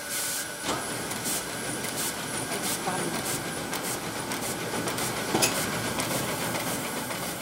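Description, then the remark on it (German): A sheet-fed printing press runs steadily at about 5,000 prints per hour as paper feeds through it, a dense mechanical roar and hiss cut by regular, rapid clacks repeating throughout, fairly loud and unbroken for the whole stretch. “Und was Sie jetzt sehen, ist, dann läuft das mit in etwa 5000 Druck in der Stunde, das Papier dadurch.”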